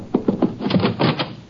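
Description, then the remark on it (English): A door closes: a quick run of knocks and rattling latch clicks, then a heavier wooden clatter, moderately loud with no voices. “I heard a door close.”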